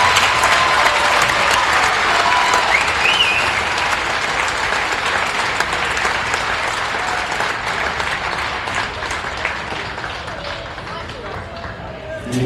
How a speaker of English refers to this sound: At this time, the team would like to present you with a game ball for Tuesday night, a small token in honor of such a monumental achievement. Let's all give them a well-deserved round of applause.